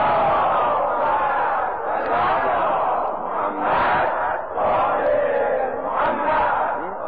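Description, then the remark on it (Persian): A large crowd chants a salawat blessing on the Prophet and his family together, loud and sustained, many voices in unison swelling and dipping in rhythmic phrases for several seconds. “یعنی ارزشمندتر از این ذکر اگه کسی گفت جایی هست بگو نیم، یه صلوات بلند خط کنه.”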